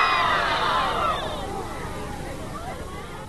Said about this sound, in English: Falls to Kennedy to talk to them. We'll hear the gasp right now as he addresses the crowd from the back of a flatbed truck.